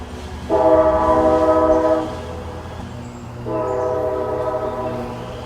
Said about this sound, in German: Ja, witzig, oder? Das ist dieses ganz klassische alte Eisenbahngeräusch. Und das passt deswegen, weil Anchorage tatsächlich auch damals überhaupt erst nur gegründet wurde als Hauptquartier der Alaska Railroad.